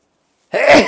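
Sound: sneeze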